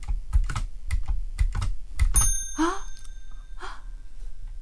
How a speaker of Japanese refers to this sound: 古い時代というんですかね、のタイプライターを今2種類ご覧いただきまして